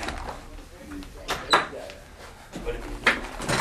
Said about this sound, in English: I'm just gonna close the door. One sec.